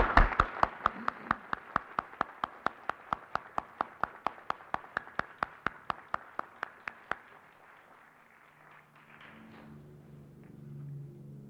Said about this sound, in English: And I wonder if our distinguished guests would join me in a round of applause for their magnificent effort.